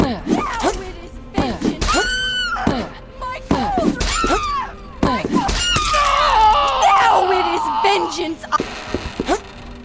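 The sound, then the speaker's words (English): A video game character screams in repeated high, wavering shrieks, with one long drawn-out wail near the end, broken up by sharp thuds and hits. “Stop screaming and die.”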